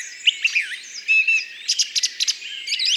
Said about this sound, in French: il y a une grive musicienne qui s'est installée à la cime d'un arbre.